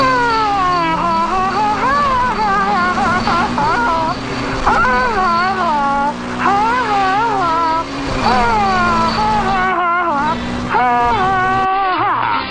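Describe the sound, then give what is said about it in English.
A person imitates a wailing siren with their voice, repeatedly swooping up and down in pitch, loud, over a steady low engine-like hum for about twelve seconds. “I'm doing the mouth siren myself.”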